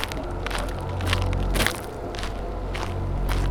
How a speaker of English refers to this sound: I began rubbing my hand across my chin again and listening to my footsteps.